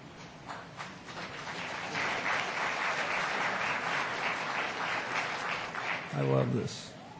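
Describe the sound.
A crowd applauds the partners of ANDE steadily for several seconds, a dense wash of clapping filling the room, with a brief voice breaking through near the end.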